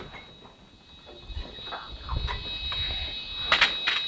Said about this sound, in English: Right, I'll open the door.